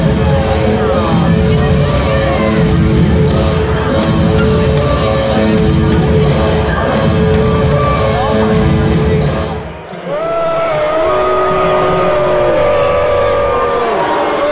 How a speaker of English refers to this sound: The penalties have just been announced. And as you can hear, the audience is not happy. They don't agree.